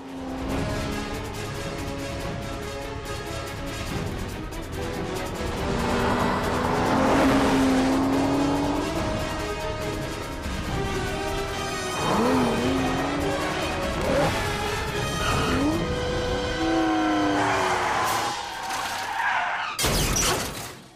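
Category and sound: vehicle, car chase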